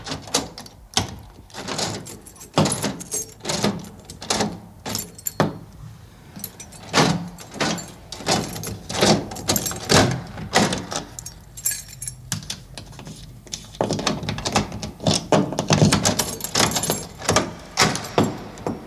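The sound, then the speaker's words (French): Keys jangle and a lock clicks through several turns as a door is fully locked, three turns and then six, a long series of sharp metallic rattles and clunks with brief pauses, no voices present. “Pour fermer la porte complètement, il faut faire avant 3 et puis 6.”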